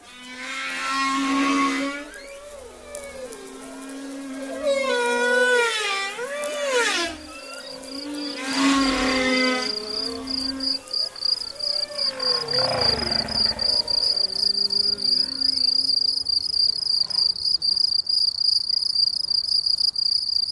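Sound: crickets chirping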